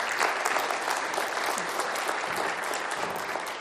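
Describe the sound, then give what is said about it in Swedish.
An audience in Österbotten applauds its pastor couple, dense clapping filling the whole stretch at an even, sustained level with no voices standing out. “Jag tycker de är värda en applåd.”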